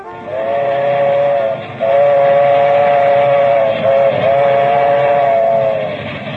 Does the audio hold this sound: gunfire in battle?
no